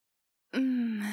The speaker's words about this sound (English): Huh? Oh, no, I was just yawning. I'm just so bored sitting here watching you do this.